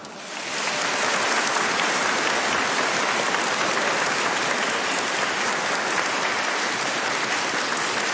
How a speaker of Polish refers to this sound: Z Poznania, gdzie dzisiaj rozpoczynamy regionalne spotkanie podwórkowych kółek różańcowych dzieci, a zatem na dobry początek wszystkich słuchaczy Radia Maryja. Pozdrówmy bardzo gorącymi i serdecznymi oklaskami.